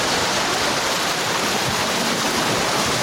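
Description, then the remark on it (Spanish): The Río Verde flows steadily along its bank at the community of Paso de la Rey, a dense, continuous rush of water that stays loud and even throughout, with no voices. “Así suena la ribera del Río Verde en la comunidad de Paso de la Rey.”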